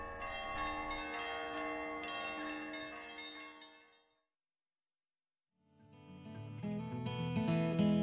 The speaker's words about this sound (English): To the rolling of the bells, bells, bells, to the tolling of the bells, bells, bells, bells, bells, bells, bells, to the moaning and the groaning of the bells.